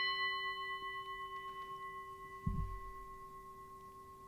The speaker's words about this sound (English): After I invite the bell, please pause the recording and take as long as you would like with the questions. When you are finished, return to the recording, which will begin again with another invitation of the bell.